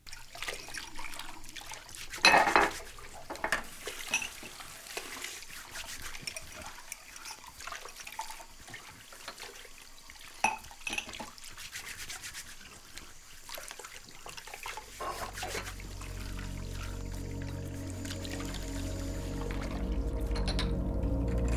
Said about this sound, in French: Et pendant que l'eau mousse et que l'éponge frotte, peut-être que l'adrénaline redescend un peu. Tes mains plongées dans l'eau chaude se décrispent enfin